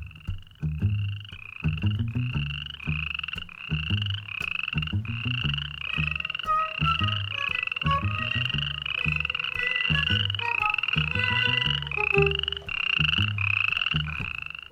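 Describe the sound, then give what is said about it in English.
A dense chorus of frogs croaking continuously, many overlapping rhythmic calls with repeated pulsing notes, steady throughout with no voices. “The landscape there is green and wet. It's the perfect home for frogs”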